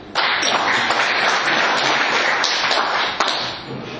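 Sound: applause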